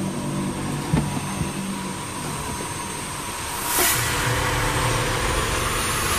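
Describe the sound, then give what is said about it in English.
An airplane taxis away, its engines giving a steady droning roar with a thin high whine on top and a brief hissing surge partway through. No one speaks. “They taxi away.”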